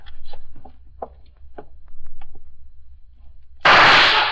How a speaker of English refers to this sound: Lucky shot, copper. Lucky shot. Yeah, I'm paid to be lucky.